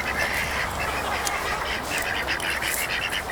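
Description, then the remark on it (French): A group of male ducks fighting during mating season, their harsh quacks overlapping continuously in a loud, dense clamor with bursts of splashing-like noise and no voices. “Là, c'est grosse bagarre. C'est les mâles qui se battent.”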